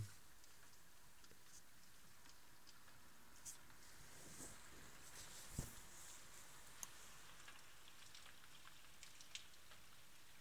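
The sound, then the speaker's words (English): Heavy rain falls steadily at about 1:35 in the morning, a continuous soft hiss with scattered sharper drops and drips, heard alone and fairly quiet throughout. “It's 25 to 2 in the morning, and the rain is really coming down.”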